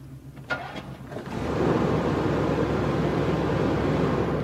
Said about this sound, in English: you're about to start the engine. I'm going to stand next to it and hopefully hear it start.